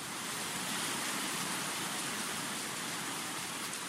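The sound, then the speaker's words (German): Heavy, torrential rain pours down in front of a fresco-painted Byzantine church in the Mani, Greece, in a steady, dense hiss that fills the whole clip, loud with no letup and no voices. “Vor einer mit Fresken ausgemalten byzantinischen Kirche erinnert mich der sintflutartige Regen an mein eigentliches Ziel.”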